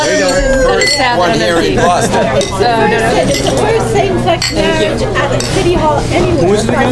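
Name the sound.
glasses clinking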